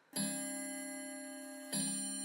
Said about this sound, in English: But suddenly, he startled with the sound of the clock.